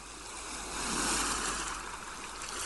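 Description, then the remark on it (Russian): Steady ocean surf washing in, a broad hissing roar that swells and eases gently as waves break, with no voices present. “Прислушайтесь к звукам прибоя.”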